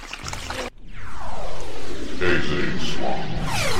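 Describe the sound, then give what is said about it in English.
A loud, steady rush of gushing water from a geyser in a video game kicks in after a brief cutoff and roars on continuously, full. “Now I have to left arrow past the stupid ass geyser.”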